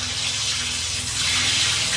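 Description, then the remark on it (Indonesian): A bathroom tap runs at night in a steady, hissing gush of water, loud and unbroken throughout, with a low hum beneath it and no voices. “Sampai aku dengar suara keran air mengocor dari kamar mandi.”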